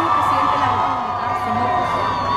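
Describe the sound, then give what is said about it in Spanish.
A large crowd shouts and cheers outdoors outside the Congress in a dense, continuous roar, with overlapping voices and occasional whoops rising above the steady din. “Ay, esto es afuera del Congreso, ¿ah? Sí, estos gritos que se escuchan ahí.”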